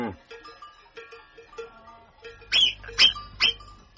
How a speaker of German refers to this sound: Das Murmeltier.